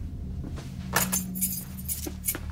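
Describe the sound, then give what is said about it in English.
Keys jingle and clink in a few quick, bright bursts as a set of car keys is shaken and passed from hand to hand over a low background hum. “you got her car keys? Yeah. Give me them.”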